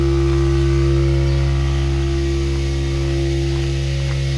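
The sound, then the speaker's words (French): Milking parlour machinery runs during the milking of ewes with a steady, loud mechanical drone: a deep, layered hum under a constant hiss, unchanging across the few seconds, with no voices. “Donc là, on s'approche de la salle de traite qu'on entend derrière nous.”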